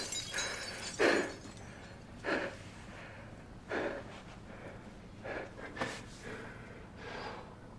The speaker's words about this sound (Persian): موج انفجار سمت ستا شد، خورده شیشه ها صورتشون رو میباره